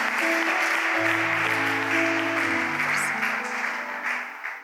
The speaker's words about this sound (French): Bienvenue au messager. Nous allons l'encourager par les acclamations.